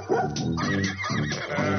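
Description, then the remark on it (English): A horse whinnies loudly, with a dog barking over it, the two animal calls overlapping continuously across the short stretch with no talking. “There's the horsey. And the doggy.”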